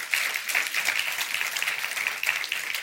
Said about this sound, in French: Est-ce qu'on peut applaudir la parole de Dieu, s'il vous plaît?